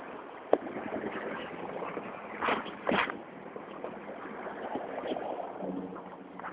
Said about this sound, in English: The wind is making a very loud whoosh. I can even hear it over the cars. God, what a lot of vehicles here this morning.